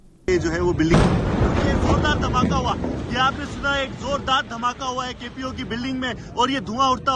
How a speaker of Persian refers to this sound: گزارش دهی زنده تلویزیون دان از لحظه یک انفجار در قرارگاه مرکزی پلیس در شهر کراچی، بزرگترین مرکز تجارتی پاکستان. مهاجمان انتحاری ناوقت جمعه بر این قرارگاه هجوم بردند.